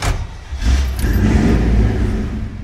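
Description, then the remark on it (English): The engine of an old 1972 topless Blazer truck revs, its deep rumble swelling after a brief dip and then holding at a loud, steady roar with no one talking. “took me for a spin in his personal vehicle, a 72 topless Blazer.”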